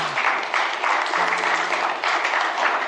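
A crowd breaks into sustained applause, a dense, steady wash of clapping hands that stays loud throughout without pause, with faint voices murmuring underneath.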